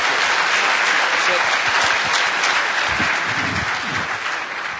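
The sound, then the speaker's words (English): An audience at DEF CON claps for Richard Thieme as he is invited up for his talk on social engineering, in a dense, sustained burst of applause that stays loud for several seconds and then begins to taper off toward the end. “Let's give Richard a round of applause.”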